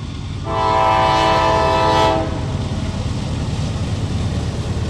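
A steam train rumbles past, sounding one long, loud horn blast that cuts off abruptly while the heavy, steady rolling noise carries on. No one speaks.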